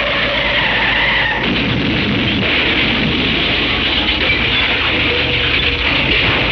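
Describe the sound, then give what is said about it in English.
A car's brakes, which need fixing, squeal briefly, then a loud, sustained crunching crash dents its radiator and fills the scene with dense, noisy clatter. It's intense throughout, with no voices. “Gotta get those brakes fixed.”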